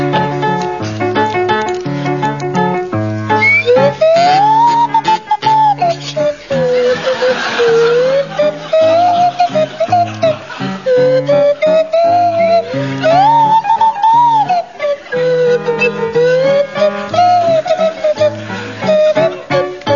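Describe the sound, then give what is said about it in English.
Barry Cryer plays a buzzing kazoo and Graham Garden a swanee whistle that slides up and down in wobbly glides, playing a bouncy oom-pah tune over steady accompaniment, with scattered chuckles from an audience. “And it's to feature Barry Cryer on kazoo and Graham Garden on Swanee Whistle.”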